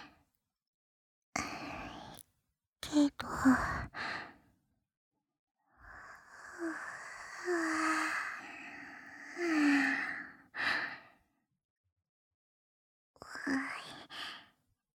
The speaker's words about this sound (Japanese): あくびが出ちゃったの。急に眠くなって、お休みの気分になっちゃった。